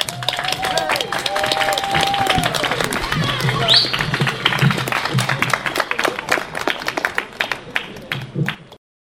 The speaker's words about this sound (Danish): Skal vi ikke lige give ham en klapsalve mere?